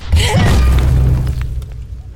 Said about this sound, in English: The impact of a cursed artifact-grade weapon colliding with a cursed artifact-grade shield rang out with a gong-like sound.